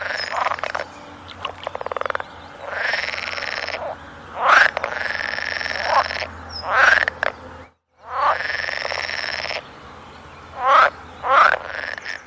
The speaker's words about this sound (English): Sound of pool frogs. These are amphibians that have unfortunately become extinct in Britain. They occurred in Norfolk, in the sort of eastern part of England, and this recording was made 20 years ago.